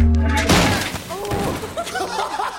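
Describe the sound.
A locker door bangs open with a sudden loud metallic slam and a rattling crash, followed by a low thud and indistinct voices murmuring.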